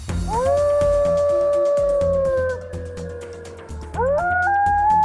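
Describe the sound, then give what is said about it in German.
A long, rising-then-sustained wolf howl rings out, followed by a second howl starting near the end, over a rumbling, rhythmic background that sounds like a music bed beneath. “Da heulen die Wölfe und es kann sein, dass man sich auch in Hessen wieder daran gewöhnen muss.”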